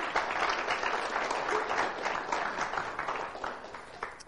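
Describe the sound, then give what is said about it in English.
A church audience claps steadily and warmly for several seconds as applause for the Lord, a dense wash of many hands in a church in a suburb of Louisville, Kentucky, before gradually thinning toward the end. “Give the Lord a hand of applause in His house.”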